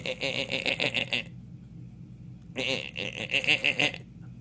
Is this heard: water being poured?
no